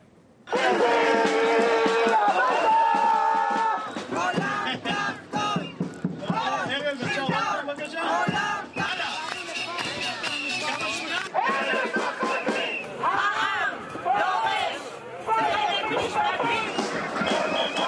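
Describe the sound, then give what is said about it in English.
A large protest crowd in the streets of Tel Aviv, Israel, carrying placards, shouts and chants slogans denouncing the government and demanding the prime minister's resignation, many raised voices overlapping in a loud, continuous roar with rhythmic bursts of yelling throughout. “The protesters were carrying placards and shouting slogans denouncing the government.”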